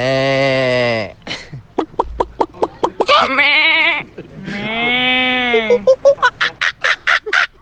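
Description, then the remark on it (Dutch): Students imitate pigs, loud: long wavering bleat-like cries alternate with bursts of quick, stuttering pulses, repeating over several seconds. “Leerlingen die varkens nadoen. Nee, geen varkens schijten, sorry.”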